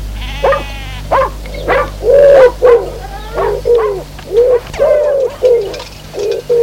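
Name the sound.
dog barking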